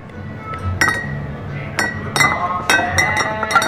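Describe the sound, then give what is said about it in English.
Glass craft beer bottles clink together as a barman packs them into a fridge ahead of the day's trade at the Stanley Beer Yard in Johannesburg, about six sharp, ringing knocks at irregular intervals, some leaving a bright high tone, over a low murmur of background noise. “A barman packs a fridge with bottles of craft beer ahead of the day's trade at the Stanley Beer Yard in Johannesburg.”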